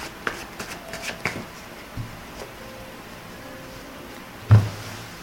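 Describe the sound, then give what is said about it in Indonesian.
Tarot cards being shuffled and handled for a career reading, with a burst of quick riffling early on, scattered soft flicks and taps, then one sharper card snap near the end. “Jadi kartu berikutnya ini Bunda akan melihat bagaimana karir atau pekerjaan dari sobat Aries.”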